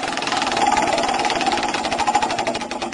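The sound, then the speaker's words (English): A prize wheel is given its first spin, with a rapid, steady stream of loud clicks that blur into a whirring rattle, then start to spread out slightly as it slows. “I've got the wheel in front of me. Let's do it. You ready for the first spin?”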